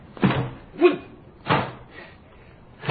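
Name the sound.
door bursting open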